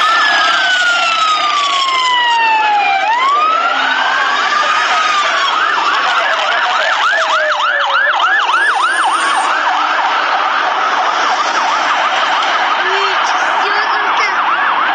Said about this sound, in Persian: در ویدیوهایی هم که از محل این انفجار منتشر شده صدای پشت سر هم آمبولانس ها شنیده و آتش سوزی در یک ساختمان دیده می شود.